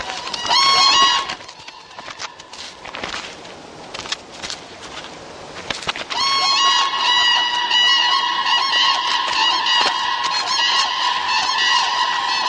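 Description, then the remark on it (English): A flock of common cranes in Swedish wetlands honks loudly in steady, overlapping, synchronized calls while mating, with strong harmonic tones, pausing briefly midway amid scuffling, then resuming in a dense, continuous chorus. “The gathering birds soon get down to the serious business of mating. Synchronized honking and strutting help strengthen bonds.”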